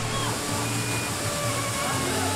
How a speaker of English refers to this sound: You hear that glory through the internet? That is an honest to God waterfall. God, it's beautiful in Los Angeles. How high do you think this thing is? One waterfall's worth of height. One waterfall's worth of height? I'd say about 30 feet.